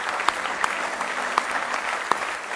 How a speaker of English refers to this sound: Somebody say praise the Lord. Well, let's just give the Lord a real, real, real good hand clap of praise tonight.